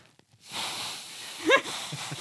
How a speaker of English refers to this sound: Like here, I'm going to blow my nose right on the air for you guys and show you that it does not make a noise. Ready?